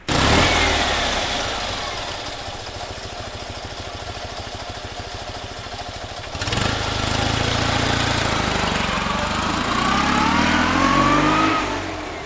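A small Fiat 126p ("maluch") car engine, lent by Janet Połtorzycka, runs with a loud, rapid, chugging rumble, then shifts partway through into a higher revving drone that rises in pitch. No one speaks.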